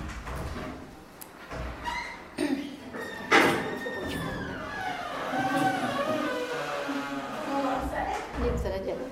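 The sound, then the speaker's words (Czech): A door creaks open with a drawn-out, wavering squeal that rises and bends in pitch, prominent over a murmur of room noise and faint voices. “Protože panu školníkovi, ať nemáš dveře, že? Protože kdyby to nevrzalo, tak to je bez problému.”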